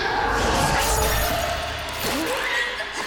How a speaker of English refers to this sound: A hand lashes out, smashing the camera into his face. He falls down, a gaping hole where his right eye used to be.